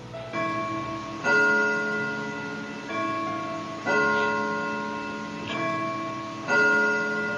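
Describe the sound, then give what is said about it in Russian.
A clock strikes the hour with six resonant bell-like chimes, evenly spaced about a second apart, each ringing tone lingering and overlapping the next, loud with no voices. “Бой часов – это как раз бой, жизненный бой.”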